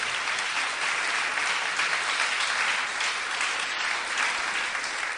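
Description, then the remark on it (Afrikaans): A concert audience applauds a singer after a song, a dense, even wash of many hands clapping at full strength for about five seconds with no voices over it. “Vriende, klap weer hande”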